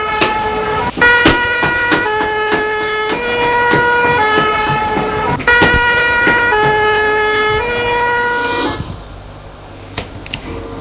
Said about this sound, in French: eh bien là, je l'entends dehors les pompiers, les sirènes des pompiers.